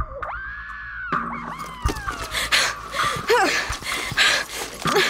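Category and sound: sound effect, woman's piercing scream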